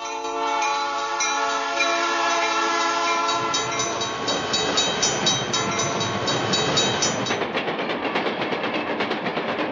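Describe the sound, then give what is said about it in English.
A loud train horn blares with sustained harmonic tones for several seconds, then gives way to the rumbling, clattering roar of rail cars rushing past. “It is a train.”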